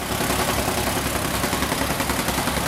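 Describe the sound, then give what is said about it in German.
Construction machinery, jackhammers and excavators, drones on steadily as Stadtwerke Tübingen renews water, power and gas lines in the Neckargasse, Tübingen; a dense, rumbling engine noise with a rough, rapidly pulsing texture that stays loud and unbroken throughout, with no voices. “Presslufthammer und Baggerfahrzeuge begleiten die Bewohner von morgens bis abends.”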